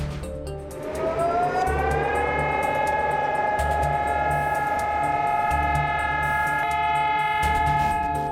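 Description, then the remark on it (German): Memorial sirens sound across Israel on Holocaust Remembrance Day in memory of the victims, as the whole country stands still for two minutes. A siren winds up within the first second into a long, steady wailing tone that holds loud and unbroken, with a low rumbling background beneath it. “Sirenen in Israel zur Erinnerung an die Opfer.”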